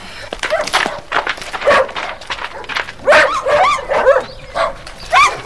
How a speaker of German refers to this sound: So viele Hunde. Was machen die mit denen bloß?